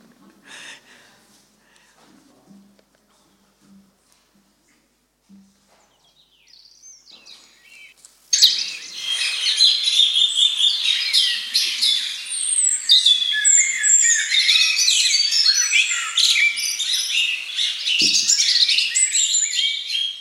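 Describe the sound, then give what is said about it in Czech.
After several seconds of near silence with a few faint sounds, a dense chorus of birds bursts in, many high chirps and trilling songs overlapping continuously and loudly until the end. “Ptáčci, ty krásně zpívají.”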